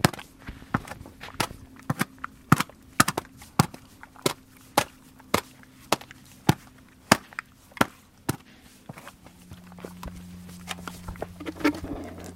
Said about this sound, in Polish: a woda zamarzła, więc niektóre konie próbują do tej wody się dostać i ona też by chciała polizać lodu, się trochę napić. Jak spojrzymy, to ona nie uderza tak płaskim kopytem głupio, tylko stara się celować kantem, żeby rozbić ten lód.